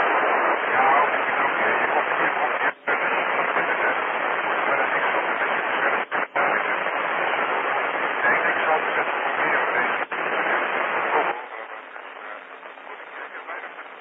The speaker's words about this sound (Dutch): Ja, het gaat te moeilijk, hoor. Het is echt heel zwak. En ja, ik heb hier ook een S4-storing ongeveer. En daar val jij ook net onder, hè. Dus dan gaat het een beetje lastig hier, hè.